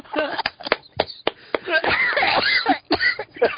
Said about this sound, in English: I heard coughing.